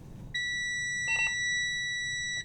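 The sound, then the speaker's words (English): A steady electronic beep tone with bright harmonics sounds continuously for about two seconds as an electric school bus starts up at a school bus lot in Beverly, Massachusetts, joined briefly by a second warbling tone, over a low rumbling background hum. “After the initial beeping stops, a green light on the dashboard tells Berkemaus that he can hit the accelerator”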